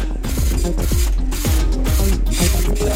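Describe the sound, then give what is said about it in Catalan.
A printer runs loudly, its mechanism whirring and chirping in quick repeated sweeps about twice a second over a steady low mechanical hum, with no voices. “Peyu, què passa amb la impressora? No parava de moure's.”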